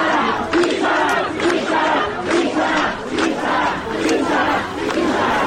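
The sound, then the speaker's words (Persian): A crowd of protesting students at the University of Tehran chants loudly in unison at a group of clerics and Basij members of their university, their shouted phrases rising and falling in a steady, repeating rhythm that fills the whole stretch without pause. “و البته در دانشگاه تهران هم وقتی دانشجویان معترض با تعدادی آخوند و بسیجی دانشگاهشون مواجه شدن، اینجوری باشون سلام و احوال پرسی کردن.”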